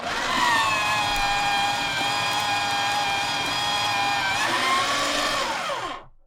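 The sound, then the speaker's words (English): A paper shredder with a bunch of blades shreds a written sheet of paper into little pieces, running for about six seconds, a steady, loud motorized whir with a buzzing tone that shifts pitch briefly near the end before cutting off abruptly. “And this shredder has a bunch of blades in it, and it shreds it into little pieces of paper like this.”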